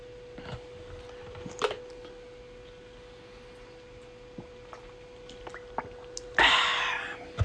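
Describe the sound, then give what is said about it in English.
A preacher drinks water during a quiet pause in a sermon: soft sips, small wet clicks and swallows over a steady low hum, then a louder brief crinkling rush near the end. “drinking on water.”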